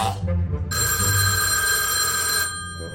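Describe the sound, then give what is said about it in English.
A telephone bell rings loudly and steadily for nearly two seconds, a bright metallic jangle over a low background rumble, then cuts off abruptly. “Ray gapes at Anna, and she sprints to the phone.”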